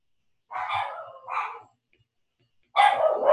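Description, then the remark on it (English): A dog barks in two quick bursts, a short pause, then another sharp bark, loud, with no talking. “Oh, dogs are so barky today.”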